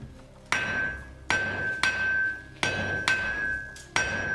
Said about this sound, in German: In diesem Zustand ist das Material noch stark mit Schlacke und Holzkohle verunreinigt. Und durch diese Hammer wird auch die Unreinheiten aus dem Metall rausgeschlagen